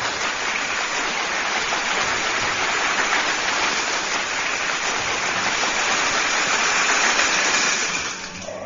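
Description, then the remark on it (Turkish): A big crowd applauds after a poem is read, in a dense, steady wash of clapping that holds at an even loudness for several seconds, then drops off near the end. No voices are heard. “Kocaman bir alkış gelsin.”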